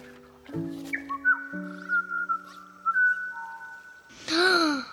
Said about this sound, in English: Did you hear that? Ooh, it was that bird. Beautiful.